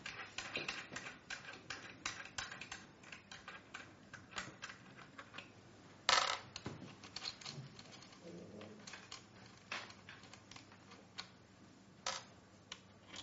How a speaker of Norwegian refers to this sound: Det er, nå er det noen mynter her.